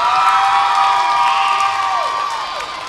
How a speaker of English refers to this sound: Welcome, class of 2022. Give yourselves a round of applause.